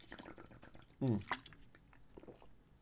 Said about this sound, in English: Hold on. I'm having a Marco Rubio moment, and I need to have a drink of water while I'm talking. Hold on.